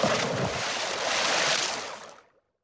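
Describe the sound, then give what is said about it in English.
A loud burst of water splashing churns steadily for about two seconds as someone jumps into the water and swims, then quickly fades to silence. No voices are heard. “I can jump into the water and I can swim.”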